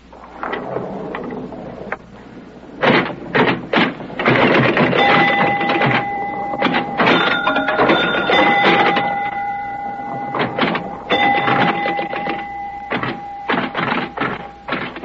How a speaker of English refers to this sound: Pinball. Lights and bells. An assault on the senses. To many, it's a game.